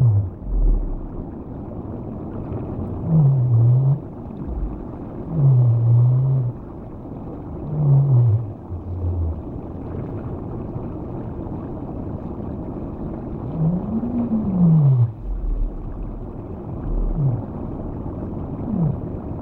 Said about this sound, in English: If not, my captains and their crews will return without me to once more defend the whales in the Southern Ocean Whale Sanctuary and hear the sound of the blue whale, the largest mammal on Earth, in the water of the Southern Oceans.